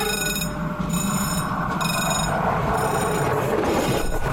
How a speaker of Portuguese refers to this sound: Portanto, a aldeia era atravessada pela linha da Beira Alta, ainda hoje é, e então o som do comboio e o som da cancela e a roldana da cancela, aquilo era tudo manual, eram sons do cotidiano.